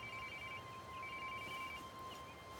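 A mobile phone rings as her colleagues keep calling it, with steady, continuous electronic tones over a dense background of rushing noise, the ringtone clear but partly muffled.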